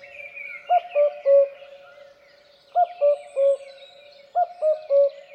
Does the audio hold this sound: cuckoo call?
yes